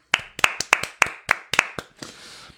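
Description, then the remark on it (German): A pair of hands claps about ten times in a quick, slightly uneven rhythm, each clap sharp and bright, fading into a brief softer rustle at the end. “Wir können auch mal für euch klatschen.”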